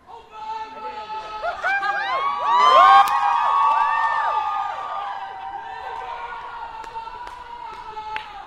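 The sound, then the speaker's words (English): A dense crowd partying in the streets of Jacksonville, Florida, cheers and shouts, many overlapping voices whooping and yelling, swelling to a loud peak early on before settling into a steady, lively roar of celebration. “The streets are alive with people.”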